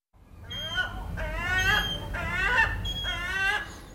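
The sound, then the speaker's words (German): Gulls circling over Rome, Italy, call out in a string of loud, harsh, wavering cries, about four in quick succession, over a steady low rumble of city background noise. “Es sind nicht Geier, die über Rom kreisen, es sind Möwen.”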